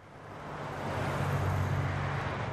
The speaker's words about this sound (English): Back in Kalawa, a fleet of PG&E service trucks rumbles past the neighborhood where the streetlights will turn off next week. Ironically, the utility giant maintains several service yards here.